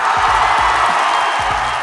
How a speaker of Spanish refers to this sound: Aplausos para nuestros amigos que estuvieron contándonos sus anécdotas.